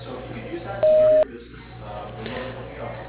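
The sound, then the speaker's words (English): A single steady electronic beep, about half a second long at a mid-high pitch, sounds loudly over a low background hum, with faint speech-like murmur before and after. It is the answering machine tone on West Coast's phone line, signalling callers to leave a message with their contact information. “After the tone, please leave your message along with your contact information”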